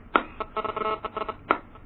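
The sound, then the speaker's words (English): A mobile phone rings during a formal meeting with a chair, a short electronic ringtone melody, bright tonal notes in a quick run framed by two sharper accented beeps, clear with no talking over it. “we have asked that please switch off your cellular phone.”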